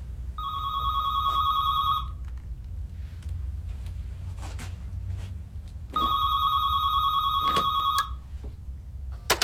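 A landline telephone rings twice, each trilling burst lasting about two seconds with a long pause between, over a low background hum.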